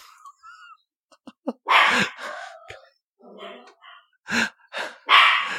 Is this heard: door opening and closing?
no